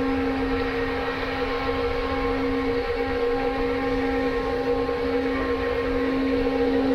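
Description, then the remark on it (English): A train horn blows at a crossing in one long, unbroken blast, a steady, fairly loud tone over a low rumble of background noise, with no voices. “Now you hear the train blowing at the crossing.”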